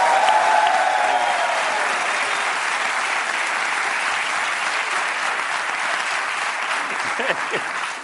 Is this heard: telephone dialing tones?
no